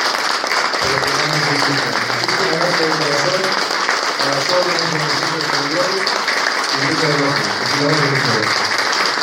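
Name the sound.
sustained audience applause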